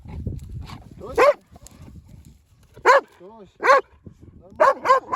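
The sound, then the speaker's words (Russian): A dog named Tochka gives several short, high whining yelps while a device is tested on her, spaced irregularly with a quick cluster near the end, while a low voice murmurs underneath at the start. “Наша самая скромная и тонкая душевная конституция собака.”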